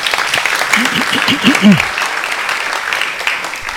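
An audience at a children's holiday club claps for a child in a steady, dense round of applause that holds fairly loud for the whole stretch, with a brief burst of voices or cheering rising through it early on.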